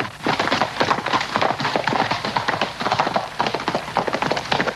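Horses' hooves clip-clop in a fast, overlapping rhythm as the heroes of the western film Butch Cassidy and the Sundance Kid ride against rocky mountains. The clatter is steady and fairly loud throughout, with no voices.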